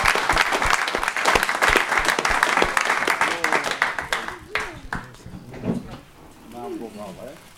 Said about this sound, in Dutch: Applaus, graag. Applaus.